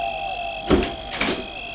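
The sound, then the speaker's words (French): A château's gate opening after an intercom call, with a steady mechanical hum underneath, broken by two clanking, scraping bursts about half a second apart, moderately loud, with no voices. “Le portail s'ouvre.”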